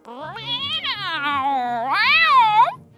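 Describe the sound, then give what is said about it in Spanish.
A cat with sharp teeth and claws yowls loudly as it jumps onto a table, in one long, wavering cry that bends upward into a higher, drawn-out meow before cutting off, with no talking around it. “Un gato con dientes afilados y garras afiladas salta sobre la mesa.”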